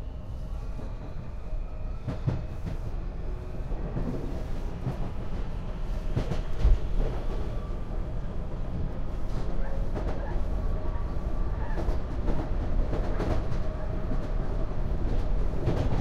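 A subway car on the Orange Line rumbles steadily along the rails, with a low continuous roar and scattered sharp clanks and rattles from the wheels and track, fairly loud throughout.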